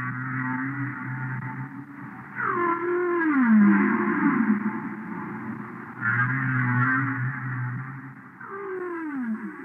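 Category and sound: animal, humpback whale song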